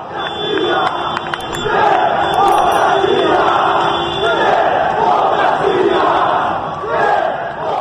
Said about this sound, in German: Erst waren es 47, heute sind es schon einige hundert, manchmal mehr als 1000. Aus voller Kehle brüllen sie Demokratie.